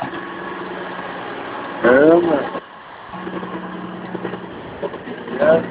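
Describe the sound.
A car passes very close by, its engine a steady low rumbling drone that swells briefly, with people talking over it at moments.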